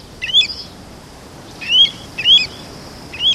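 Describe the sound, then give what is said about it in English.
Pacific golden plover calling: four clear, high whistled calls, one alone and then three more after a pause, each a quick slurred note over a faint, steady background hiss. “Shorebirds, such as the Pacific golden plover, are famous for their ability to navigate over great distances.”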